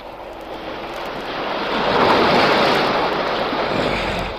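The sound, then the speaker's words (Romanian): Waves crash furiously against rocks in the Torres Strait, watched from the deck of the submarine Nautilus; a loud, continuous roar that swells to a peak midway and slowly ebbs, with a windy hiss over the surf and no voices. “Profesorul Aronnax privea de pe puntea submarinului, împreună cu Ned Land și Conseil, valurile care se izbeau cu furie de stânci.”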